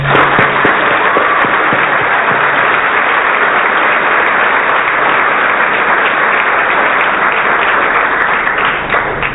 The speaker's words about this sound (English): I did just want to take another moment to honor them and to give them some applause.